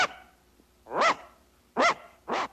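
A dog barks three times at night next to a barn on rural farmland, in a slow, spaced rhythm, each bark loud with a harmonic, slightly strained tone, separated by quiet gaps with faint background hiss.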